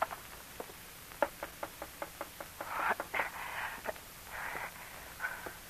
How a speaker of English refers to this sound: One night, weeks later, Rose DeFries jumped up in alarm when she heard a knock on her window. What's that?